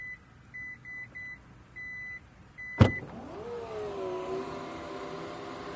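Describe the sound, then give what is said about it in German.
A Taurus SUV's hands-free tailgate opens on its own after a person with the key in a pocket stands behind it for a while: a series of short, steady warning beeps, a sharp latch clunk, then the low, even whir of the power motor lifting the hatch. “Coole Sache, der Taurus erkennt, wenn ich hinter ihm stehe und den Schlüssel in der Tasche habe und wenn ich einige Zeit hinter der Klappe stehe, dann macht er die einfach auf, weil ich könnte ja drei Wasserkisten in den Händen halten.”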